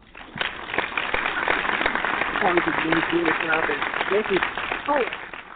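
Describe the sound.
Steady audience applause, a dense crackle of many hands clapping for several seconds, with a few voices calling out over it partway through.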